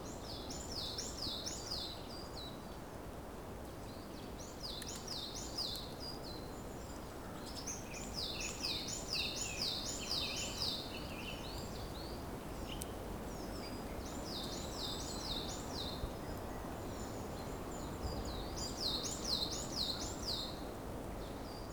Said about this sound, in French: D'un bleu azur, d'un blanc éclatant, et les oiseaux commencent à se réveiller.